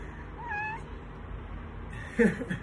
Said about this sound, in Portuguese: Minha gatinha chegou aqui.